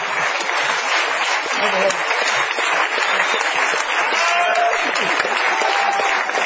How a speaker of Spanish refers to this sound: Bueno, aplaudamos a papá.